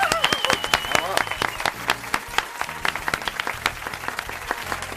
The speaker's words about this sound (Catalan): No els mencionarem tots perquè, simplement, bueno, va, els aplaudim, ja.